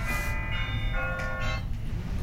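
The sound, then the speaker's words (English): A phone ringtone plays as a series of bright, bell-like chiming tones in short bursts over a steady low rumble, with no one talking. “I'm sorry that this is ringing and I don't know where my phone is.”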